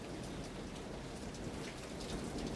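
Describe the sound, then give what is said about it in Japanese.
Steady, dense rain pattering on hard surfaces, a constant hiss of countless drops at an even loudness throughout, with no voices. “視界の前には火災の名残を濃く漂わせる黒煙が雨によって引き裂かれ、地表に押し込められていた。”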